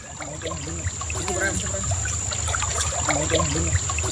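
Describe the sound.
Shallow river water near an old family farm in the west of Cuba sloshes and splashes steadily as someone wades across it in the rainy season, a continuous watery churn with faint voices murmuring in the background.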